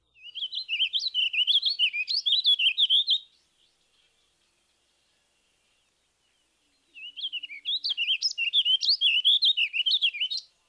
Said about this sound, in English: No, it isn't a house finch or a purple finch. This drab-looking character with a sound-alike song is the warbling vireo. The song is much like the purple finch, but less lively. Listen to the warbling vireo's evenly measured tempo.